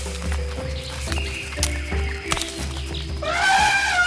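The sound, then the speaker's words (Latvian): A dense jungle soundscape with elephants trumpeting in the distance and monkeys chattering overhead, over a steady low rumble, with bright tropical bird chirps and trills rising toward the end. “Tālumā viņi dzird ziloņus un virs galvām pērtiķus un tropiskos putnus.”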